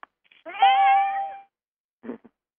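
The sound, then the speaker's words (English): A cat lets out one drawn-out, wavering meow, clear, followed after a short pause by a brief low rustle or murmur. No one speaks. “I hear a cat.”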